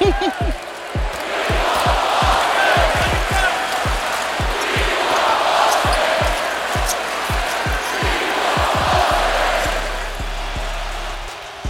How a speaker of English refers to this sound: And now the crowd is starting to feel it. And this is what they started to chant.